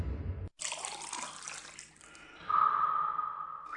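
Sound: water trickling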